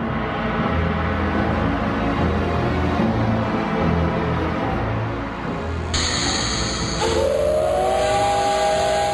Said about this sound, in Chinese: 火车鸣着汽笛向后先退了5公里，然后再开始全速行驶，速度非常的惊人。